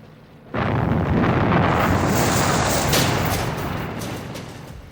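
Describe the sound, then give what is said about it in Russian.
A sudden loud explosion as a shell hits a field gun bursts in at once, then a dense, roaring blast rumble sustains and slowly fades over several seconds, powerful, with no voices. “Эх, гады. Попали в пушку.”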